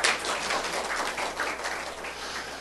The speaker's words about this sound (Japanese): で、まあ、奥さんと共に来られて、ちょっとウェルカムの拍手をしましょう。